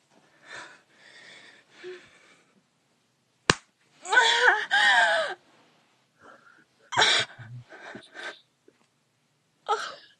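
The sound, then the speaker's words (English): A single sharp slap of a person's hand against their own genitals rings out once, surrounded by soft breathy vocal sounds and gasps before and after. “give your pussy a little slap.”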